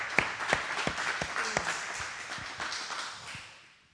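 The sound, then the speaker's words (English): A worship crowd claps hands in praise of the Lord, many hands in a dense, steady patter, some sharp claps standing out, before the applause gradually fades away. “Hand clap of praise.”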